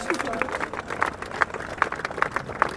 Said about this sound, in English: He received a standing ovation from the crowd after his remarks, and I had the chance to speak with him here in Berlin.